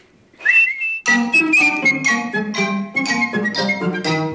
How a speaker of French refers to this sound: Non, essaye encore. Voilà, c'est très bien. Alors, écoute-moi. Toutes les fois que tu auras besoin de moi, tu n'auras qu'à siffler pour m'appeler et je viendrai te donner conseil.